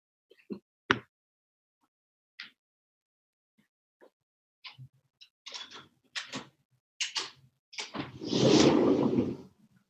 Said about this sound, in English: I'm going to open this door real quick, guys.